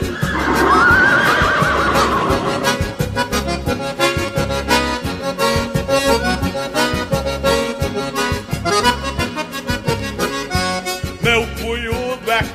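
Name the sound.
stallion neighing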